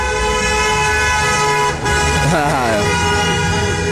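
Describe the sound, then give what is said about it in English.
A truck horn blares loudly and steadily for several seconds, with a brief murmur of voices rising partway through under the sustained honk. “I can always tell Greg's truck.”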